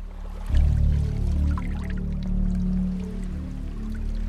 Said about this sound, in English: The water splashes against the back of her legs, and she glances off.